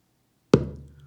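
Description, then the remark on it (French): One deep drum stroke, made by all the joined fingers of the right hand striking the center of the skin: a sharp thump that leaves a low, booming tone slowly fading away. No one speaks. “Par exemple, si l'on frappe au centre de la peau avec tous les doigts réunis de la main droite, on obtient un son grave.”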